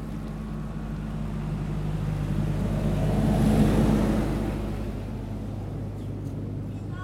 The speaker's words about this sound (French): je vais décoller l'arrière du bateau, reculer pour pouvoir prendre un axe pour aller éviter les quais puis aller tout droit